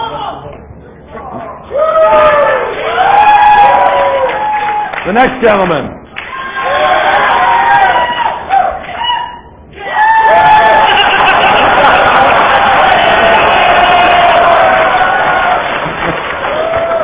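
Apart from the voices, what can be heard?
audience applause and cheering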